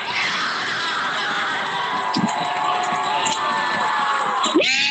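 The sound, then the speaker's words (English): A large outdoor crowd of 2020 Black Lives Matter protesters in downtown Portland cheers and shouts in a sustained roar as marchers from Peninsula Park merge with a crowd gathered around the Justice Center, voices overlapping with high-pitched whoops and screams rising above the steady din, loud throughout. “There they merged with a crowd that had gathered around the Justice Center. The moment both groups met was powerful.”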